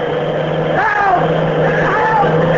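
A cross-country bus engine drones loudly and steadily, its pitch swelling and whining upward as it accelerates past.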